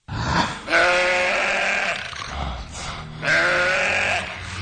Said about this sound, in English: So they're in the house, and there's like a little doggy door, and a sheep tries to ram its head through the doggy door and get into the house after them.